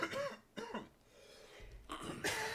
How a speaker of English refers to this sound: My goodness. Hold on while I cough up a lung, everybody.